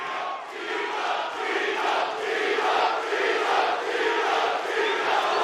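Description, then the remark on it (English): A big crowd at a UFC fight roars and cheers without pause, a dense, loud wall of voices that swells in waves, with no single speaker standing out. “The crowd is here for you.”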